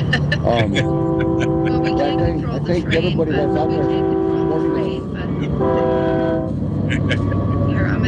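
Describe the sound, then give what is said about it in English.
A train horn blares in three long, loud blasts over the steady rumble of a passing train, while a man keeps talking underneath. “And got a train coming.”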